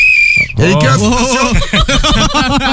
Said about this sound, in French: J'ai un sifflet avec une clé. Vas-y, siffle. Vas-y, siffle un peu, sifflet là.